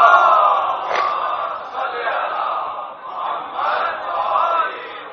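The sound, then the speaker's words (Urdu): A large crowd chants a durood salutation on Muhammad and his family together in unison, a dense swell of many voices rising and falling in waves, sustained and loud throughout. “ایک درود پڑھ دیں محمد والے محمد پر.”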